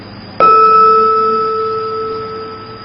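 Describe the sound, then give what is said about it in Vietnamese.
A temple bell is struck once, and its clear, resonant tone with shimmering overtones rings out and slowly fades over a few seconds, with no voices. “Bây giờ tôi làm tiếng chuông quý vị và chúng.”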